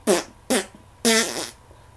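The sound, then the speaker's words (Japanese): Three loud farts: two short blasts in quick succession, then a longer, buzzier one that trails off, with no talking. “でもあんたのおならもやばいわね。”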